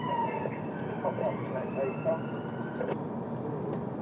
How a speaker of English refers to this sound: God, I know we're back home. I just heard a siren. I don't think we've heard one since we've been away.